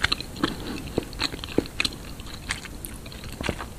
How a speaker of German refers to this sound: Und Wachs. In diesem Video isst sie eine frische Honigwabe und Sushi.